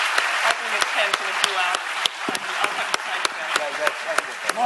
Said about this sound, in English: So let's give a round of applause for our panelists. Thank you very much.